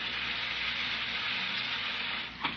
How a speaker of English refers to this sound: No, turn on that carbonated water. I want to hear it fizzle.